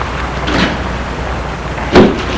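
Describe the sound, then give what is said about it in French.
A woman goes into her house: a softer scuffing movement, then the house door shuts with a single dull thud near the end, all over a steady low background hum with no talking. “Il la voit rentrer chez elle.”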